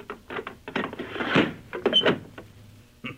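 A door is shut and locked with two turns of a key: a run of clattering knocks, metallic rattles and clicks over a couple of seconds, then one last sharp click.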